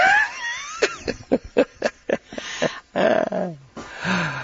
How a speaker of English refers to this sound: Oh, I know. I breathe too hard. Sorry.